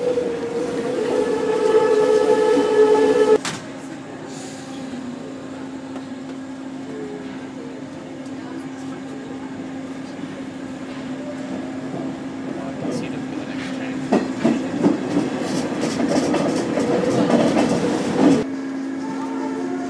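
A subway train rumbles through a station with a steady droning whine, a high tone at the start and bursts of metallic clatter near the end before the sound cuts off abruptly.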